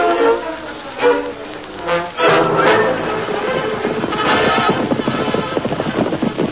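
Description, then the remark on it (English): Horse hooves gallop in a fast, steady rhythm as a rider on a black horse comes out of a canyon, growing denser toward the end, set against a busy, swelling background of other sound. “Isn't that somebody riding out of the canyon?”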